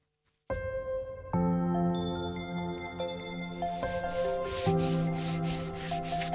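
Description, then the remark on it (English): Wood being sanded with a power tool in a workshop, the last sanding on the boat Loveen, a steady whirring motor hum with a gritty rasping texture that starts abruptly and runs continuously and fairly loud, with no one talking. “Lorna Siggins dropped down to the workshop to witness the last pieces of sanding, drilling and varnishing on the Loveen”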